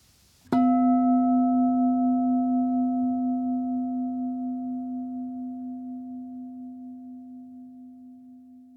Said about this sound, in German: Ja, dann ertönt gleich der Gong und du kannst nach dem Gong die Augen öffnen und dich ein wenig strecken.